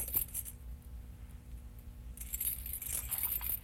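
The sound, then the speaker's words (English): Keys jingle in two bursts of bright metallic clinking, a short shake at the start and a longer, louder rattle after a pause, over a low steady rumble. “you want to put the keys in the bus?”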